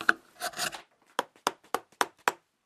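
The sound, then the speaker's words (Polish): A chisel shaving wood: a few rough, rasping scrapes, then five short, crisp cuts in a steady rhythm about a quarter second apart, with no talking. “Sam szum tego ścinanego drewna dłutem, jeżeli dłuto jest ostre, to wydaje taki fajny szum, potrafi właśnie wyciszyć człowieka.”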